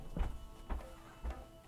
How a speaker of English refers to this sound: No, nothing. The cat's just being very noisy.